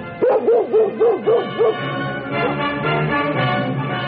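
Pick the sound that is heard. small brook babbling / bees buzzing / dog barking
dog barking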